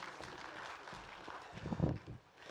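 An audience claps in a steady, dense patter of applause, fairly faint and distant-sounding, swelling a little before trailing off near the end.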